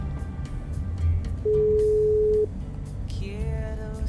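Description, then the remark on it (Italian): A single steady, fairly loud ringback tone from an outgoing phone call sounds for about a second over a low background rumble, followed shortly by a brief tonal sound. “Allora, buonasera, eccolo qua, il telefono squilla.”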